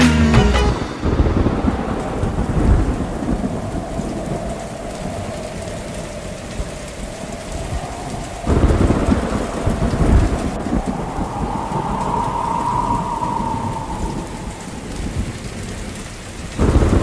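Steady, heavy rain hisses throughout, with deep rolls of thunder rumbling in at the start, again midway, and once more at the very end. No voices are heard.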